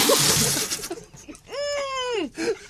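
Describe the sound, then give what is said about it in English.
A hissing burst of water is splashed right into someone's face and over their new jeans, spilling out for about a second, then a voice lets out a drawn-out, wavering cry that slides down in pitch and stops. “Oh, it's getting wet now. That was right in the face.”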